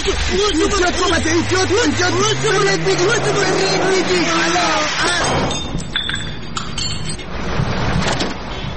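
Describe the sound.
A car engine revs under agitated voices in road traffic, then a sudden crunch of impact as a car hits another car's headlight and breaks it, followed by scattered tinkling of glass pieces over the next few seconds.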